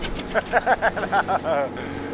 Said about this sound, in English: It's a bumpy half-hour boat ride upriver into a brutal wind.